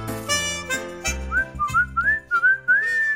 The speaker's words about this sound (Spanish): Les saludo con silbidos. Ya sé que no muy afortunados, pero lo que cuenta es la intención, o eso dicen.